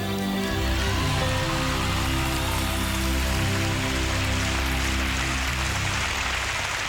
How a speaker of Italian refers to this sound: E questi sono gli applausi di Sanremo per la sua partecipazione in quell'anno del 1988